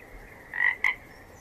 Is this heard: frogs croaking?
yes